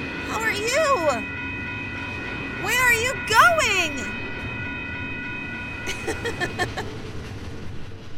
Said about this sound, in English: Mom! The train! She's still in the store. She won't mind if I get a closer look. I gotta see this train!